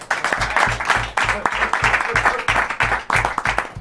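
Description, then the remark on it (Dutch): A crowd bursts into steady, loud applause, a dense wash of many hands clapping with shouts mixed in and a regular low thumping underneath, sustained for a few seconds. “Jongens, applaus!”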